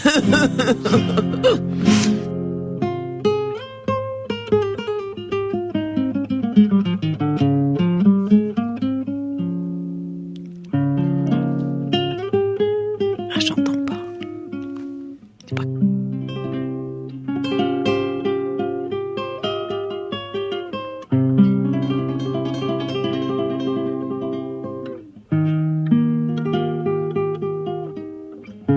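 A jazz orchestra recording plays with full, sustained ensemble chords and slow melodic lines, shifting between phrases every few seconds at a steady, moderate loudness, with no voices.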